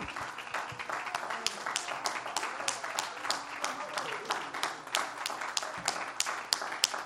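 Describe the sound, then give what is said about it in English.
An audience claps hands as unto the Lord, steadily for several seconds: a dense, continuous patter of many hands at moderate volume, with faint voices murmuring underneath. “Let's clap our hands as unto the Lord.”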